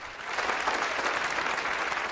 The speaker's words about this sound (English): claps along from his place amongst the audience.